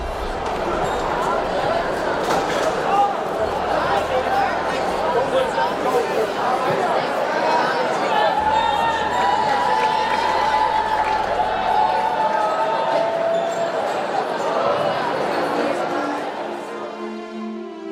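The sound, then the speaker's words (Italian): A crowd gathered by a scaffold murmurs continuously, many overlapping voices blending into an indistinct babble with no single word standing out, holding at a fairly steady, moderately loud level throughout. “Gli fece cenno di avvicinarsi, gli mostrò il documento, impartì le istruzioni del caso e gli ordinò di tornare al suo posto nel brusio crescente della folla, che non capiva quello che stava accadendo.”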